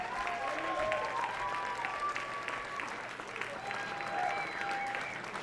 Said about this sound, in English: Give her an applause.